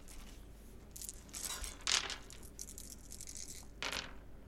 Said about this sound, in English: Okay, roll me 3 discipline dice.